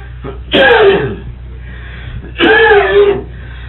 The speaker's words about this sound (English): Where'd you get the whooping cough? Jesus, I've had it for 2 weeks. That's what I begin to think it is.